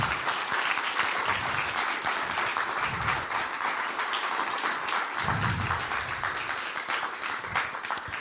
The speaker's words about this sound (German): Kräftigen Applaus.